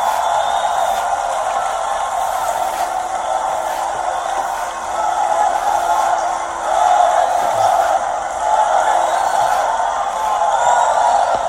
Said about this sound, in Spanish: Ella, por cierto, un aplauso a su gobernador, es una mujer extraordinaria.